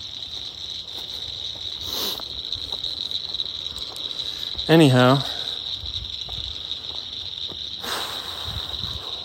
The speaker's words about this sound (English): I'm walking by like a pond with, I think they're like some frogs and maybe some insects. Yeah, it's like a lot of noise.